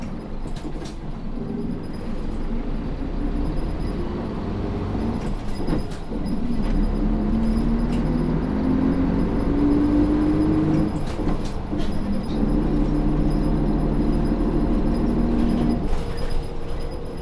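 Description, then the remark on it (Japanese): Inside a moving Nishitetsu city bus approaching the Ishimaru Shinmachi stop: a steady low engine rumble fills the cabin, with a whine that rises as the bus accelerates and scattered rattles and clicks. Nobody speaks. “はい、まもなく石丸新町です。バスが止まってから席をお立ちください。”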